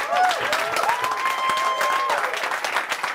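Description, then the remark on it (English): A live show audience claps for itself steadily in a dense, crackling wash of applause, with a high whistle cutting through for about a second before the clapping carries on. Nobody speaks. “Please clap it up for yourselves, because you mean a lot to me.”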